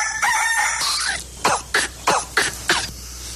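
A single loud, drawn-out rooster crow rings out, followed by five short, sharp, evenly spaced squawks. No one speaks.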